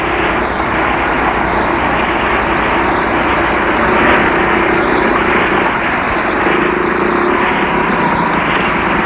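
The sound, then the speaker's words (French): A truck engine rumbles loudly and steadily throughout, a continuous mechanical drone with a constant pitch and no voices, the truck stopped across the bottom of a street to close it off. “Un camion en bas de la rue, arrêté au travers de la rue pour la fermer.”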